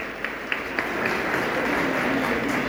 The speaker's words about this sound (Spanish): Muy bien, un aplauso para Jesús.